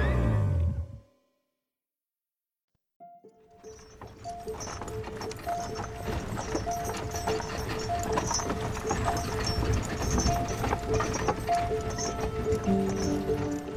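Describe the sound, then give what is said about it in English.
After a brief pause, steady clip-clopping hooves of a horse pulling a carriage roll in fairly loud, with rattling wheels and a faint whinny amid a continuous rumbling background; the carriage carries 6-year-old Wolfgang Amadeus Mozart and his father Leopold 200 miles from Salzburg to Vienna in 1762. “Sometime in 1762, 6-year-old Wolfgang Amadeus Mozart sat in the back of a horse-drawn carriage with his father, Leopold.”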